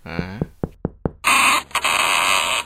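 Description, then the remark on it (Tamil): A quick run of four sharp, evenly spaced knocks on a door early in the morning, following a brief voiced sound, then giving way to a loud, steady wash of noise. “யார் அது இப்படி காணங்காத்தால கதவை தட்டுறது?”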